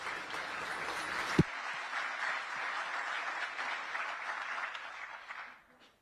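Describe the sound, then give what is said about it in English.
A crowd at a multipolarity forum conference in Moscow applauds steadily, a dense wash of many hands clapping at an even level for about five seconds, with one sharp thump near the start, before the clapping fades out. “Let's applaud to you.”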